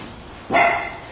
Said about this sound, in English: Amen. That's the amen dog, right?